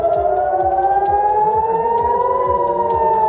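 signal or alarm, air raid sirens wailing

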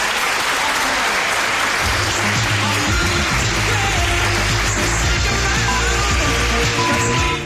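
crowd, students applauding

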